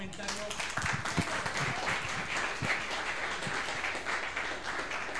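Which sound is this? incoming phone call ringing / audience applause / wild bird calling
audience applause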